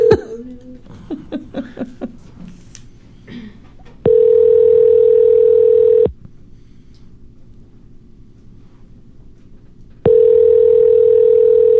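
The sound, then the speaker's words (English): Laughter opens, then a loud, steady telephone dial tone after a dropped phone call drones for about two seconds, cuts out during a pause of several seconds, and resumes just as evenly. “Oh, I just lost him. Hold on 1 second.”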